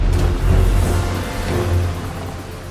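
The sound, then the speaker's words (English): A car engine rumbles low and steady, swelling slightly as Madison's car rolls in and settles on arriving at the lake house, with no voices over it. “Now Madison arrives at the lake house.”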